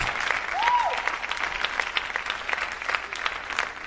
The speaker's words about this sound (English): il acclame le Seigneur. Let's clap for the Lord.